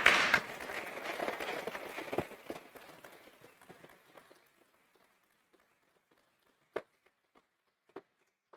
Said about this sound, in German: Herzlichen Dank diesem Trio. Diesen Applaus habt ihr euch verdient.